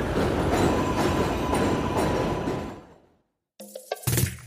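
A train rumbles loudly overhead near a railway station by a bakery for about three seconds, a dense roar with rattling wheels, then fades out to silence before a brief burst of unrelated sound.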